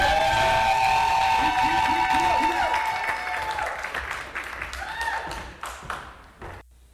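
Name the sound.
audience clapping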